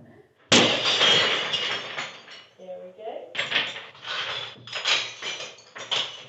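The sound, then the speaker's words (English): A sledgehammer smashes through a pane of glass on the seventh attempt with one loud, sudden crash, followed by a long spray of shattering shards and then several more bursts of breaking and tumbling glass. “And believe it or not, it took seven attempts with a sledgehammer to get through a pane of the famously breakable material glass.”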